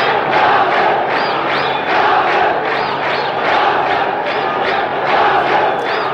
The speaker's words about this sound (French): vous entendez la foule qui proteste contre la décision du colonel Nasser de se retirer, et le dirigeant égyptien entend que ses sujets ne souhaitent pas qu'il parte.